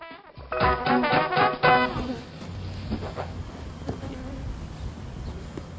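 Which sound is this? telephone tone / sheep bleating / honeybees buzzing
honeybees buzzing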